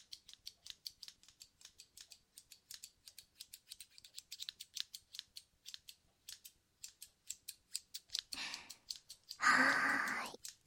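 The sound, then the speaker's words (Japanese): Crisp scissors snipping at empty air, not cutting anything, dozens of quick metallic snips in a steady, brisk rhythm for several seconds, followed by a couple of soft, breathy exhales near the end. “ハサミのチョキチョキ音だよ。”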